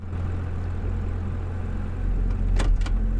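A car engine hums at low speed with a steady, deep rumble as the vehicle slowly eases into a parking space in an underground parking area, followed by a couple of brief mechanical clicks near the end.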